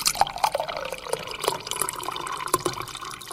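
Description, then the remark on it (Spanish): Chlorinated water, disinfected with drops of chlorine bleach, pours steadily into a clean cup during a class, a continuous splashing trickle with small bright drips and plops scattered through it, no voices present. “Y no nos olvidemos que el agua clorada debemos tomarla en una taza o vaso limpio.”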